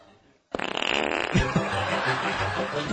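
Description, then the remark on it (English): A long, loud, sputtering fart bursts in abruptly after a brief quiet moment and keeps rumbling and flapping without a break until the end. “I hate fart jokes.”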